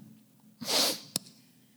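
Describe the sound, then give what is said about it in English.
A person gives one loud, drawn-out, judgmental nasal sniff, a breathy hiss lasting about half a second and ending in a short sharp click, with no talking around it. “And if they say nothing, it's the judgmental sniff.”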